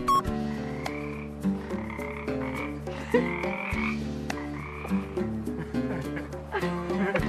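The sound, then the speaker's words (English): A loud, dense chorus of many frogs croaking in Malibu, overlapping calls pulsing in steady rhythms with no break, filling the whole stretch. “And there were these frogs because we were in Malibu. And they were so loud.”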